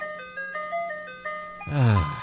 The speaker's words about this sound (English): Could you imagine, though, you got the ice cream truck music, and if it was Joe Biden that was driving. Creepy music.